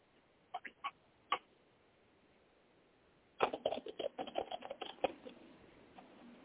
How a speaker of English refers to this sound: So, 1 second while I shuffle the cards.